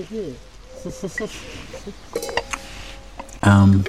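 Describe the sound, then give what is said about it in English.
Wine glasses holding Pinot clink together once in a toast during a wine tasting, leaving a clear ringing tone that lingers for about a second, with people talking around it and a louder burst of voices near the end. “We're going to keep on cheering. All right. And, okay, we have to drink after we cheer.”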